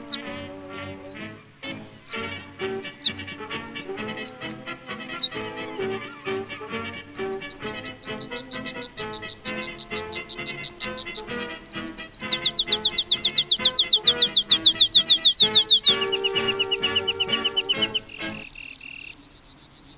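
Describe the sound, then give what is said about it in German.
Squeaky, high calls of a red-throated pipit repeat rapidly and steadily, growing into a dense, continuous chatter that stays fairly loud throughout, with no one speaking. “Mai, des internationalen Kampf- und Feiertags der Arbeiterklasse, gibt es natürlich einen Vogel, der zumindest rot im Namen und auch auf der Kehle trägt. Auch wenn sich seine Forderungen eher piepsend hören lassen.”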